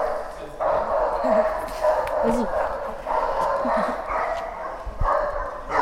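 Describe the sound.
Several dogs bark and yip in repeated bursts, fairly loud, a steady rhythm of barks roughly every second, with a person briefly speaking underneath.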